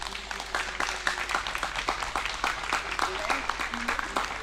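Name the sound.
applause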